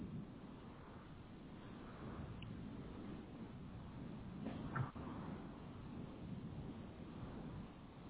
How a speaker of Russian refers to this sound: вы мне что-нибудь мяукаете там? Ну, дальше. И погромче мяукать.